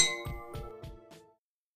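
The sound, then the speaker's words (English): Glasses clink together four times in a steady rhythm, each tap ringing out with a bright, sustained tone that fades away after about a second. Clear, with no voices. “Cheers!”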